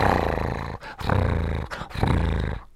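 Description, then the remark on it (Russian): A tiger purrs with pleasure in a deep, throaty rumble, three long sustained phrases separated by brief pauses for breath, loud and steady with no voices. “Тигр замурлыкал от удовольствия.”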